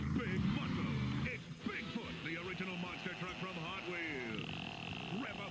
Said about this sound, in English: Sounds like a pig toy.